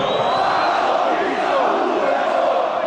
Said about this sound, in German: Es begegnet einem ständig. Zum Beispiel hier, als Fans von Borussia Dortmund aus ihrer Kurve den gegnerischen Torwart beschimpfen.